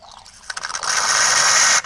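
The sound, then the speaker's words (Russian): A coffee machine brewing cappuccino, set for two cups, starts with a few quick mechanical clicks and rattles, then gives a loud, steady whirring hiss for about a second before cutting off abruptly. No voices. “я сейчас кофе сварю.”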